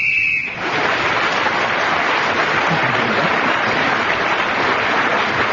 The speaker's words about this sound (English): … was speaking then when the whistle went.